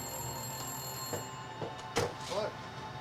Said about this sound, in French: Le téléphone se mit à sonner à 19h précises quand le père d'Amy arriva.